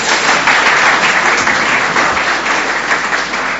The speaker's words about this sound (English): Give him a little round of applause.